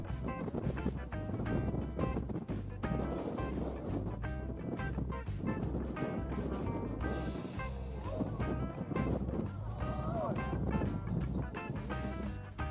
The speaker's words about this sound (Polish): Tym razem zaczniemy od sytuacji na zawodach samolotów typu STOL, czyli Short Takeoff and Landing, gdzie podczas jednej z prób zawiał mocny wiatr.